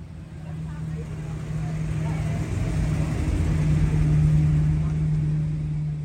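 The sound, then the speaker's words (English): Rumbling engines of classic cars from a local car club idle and rev outside a hospital in Yuma County on a Wednesday, a steady low drone that grows louder as the vehicles pull in to deliver plush teddy bears, with faint voices mingling in the background. “The sound of classic car engines arriving at the hospital could be heard outside of Onvita Health on Wednesday as thousands of plush teddy bears were delivered to NICUs and emergency rooms across Yuma County.”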